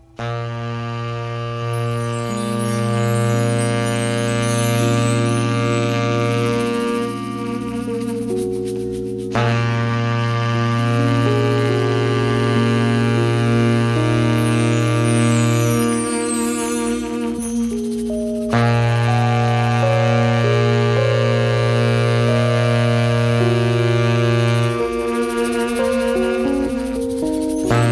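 A rock song plays loud, built on long sustained chords over a heavy low end, with brief pauses between phrases and no talking over it.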